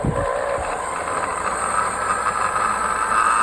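A blender motor runs on a low setting while blending a banana cut into four pieces, a steady, even whirring hum with a faint hiss, holding constant in pitch and loudness throughout with no voices.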